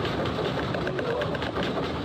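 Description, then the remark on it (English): A recording of an earthquake in Italy in 1976, captured while a teenager was transferring a vinyl record: a steady, loud rumble, a dense low roar that holds without a break, with faint rattling ticks scattered above it and no voices. “You hear a scratch, and that's the S wave arriving, and then the rumble.”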